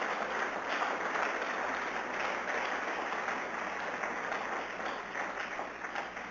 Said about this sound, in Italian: Facciamo un applauso a Gesù ancora.